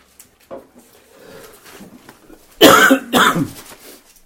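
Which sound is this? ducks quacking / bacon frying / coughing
coughing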